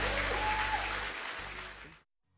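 An audience bursts into dense, steady applause, a broad wash of clapping that holds strong for about two seconds, then cuts off abruptly into silence.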